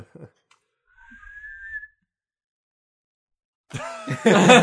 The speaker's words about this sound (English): That's not the extent of my whistling.